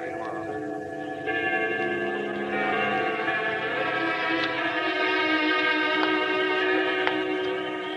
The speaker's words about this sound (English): Well, baby, the bells are still ringing.